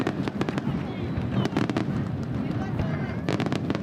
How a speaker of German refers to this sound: Es ist nicht einmal 10 Uhr morgens, da knallen plötzlich Böller und Raketen in der Bucht von Bari. Ein ohrenbetäubender Lärm ist das. Der Krach lässt die Fenster noch am anderen Ende der Bucht erzittern. Raketen schießen buntes Pulver in die Luft.